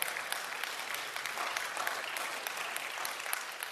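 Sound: audience applause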